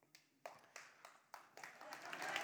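A church audience starts clapping: a few scattered, uneven claps at first, then the claps thicken and swell into steady, louder applause by the end.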